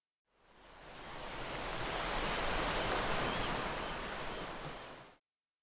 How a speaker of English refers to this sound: The sea!